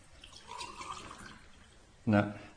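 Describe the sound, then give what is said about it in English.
Water pours into a glass for about a second, the gurgling pitch rising as it fills, followed by a brief burst of a voice. “No miracles yet, it's still water.”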